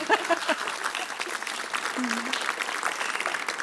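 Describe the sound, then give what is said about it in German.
Steady audience applause fills the space, a dense patter of many hands clapping at moderate loudness, with faint voices briefly audible in the background near the start. “Sie dürfen klatschen.”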